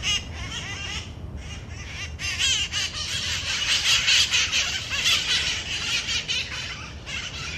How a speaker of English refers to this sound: Though it didn't take me as long as I thought to find these parrots, the search for the little green creatures makes San Francisco feel a little bit more wild.